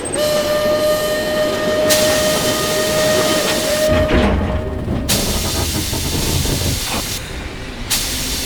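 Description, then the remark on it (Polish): A steam locomotive whistle sounds a long steady tone over the loud rumble and hiss of the Paris train slowing as it pulls into a station, with bursts of steam venting as the heavy clatter continues. “Rozległ się gwizd lokomotywy i pociąg zwolnionym pędem zajechał na stację.”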